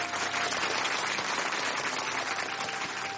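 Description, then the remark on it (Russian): Sustained applause from a large audience fills a hall as a man presents a large bouquet of white roses on stage, a dense, steady wash of many hands clapping at once, loud and continuous with no voices breaking through. “Зал взорвался аплодисментами.”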